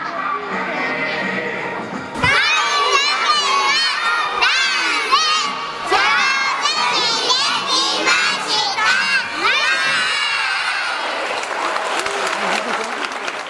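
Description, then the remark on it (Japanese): A crowd of preschool children dressed as pirates, performing a pirate dance on stage, shout and yell energetically at high pitch, their overlapping voices bursting in after a quieter start and staying loud and continuous, with some cheering mixed in. “そしてこの後、園児たちは海賊に扮し、海賊のダンスを元気いっぱいに披露しました。”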